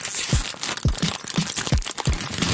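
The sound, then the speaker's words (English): Loud crunching of potato chips in a quick, irregular rhythm of about eight sharp bites, layered over continuous crinkling of a plastic chip bag, with no voices. “Do you like loudly crunching potato chips and crinkling the bag?”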